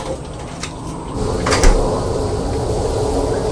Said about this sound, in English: I think we'll have to just close the door because the sound of the elevator. It's very loud, isn't it? That's loud. Very loud. What a noise.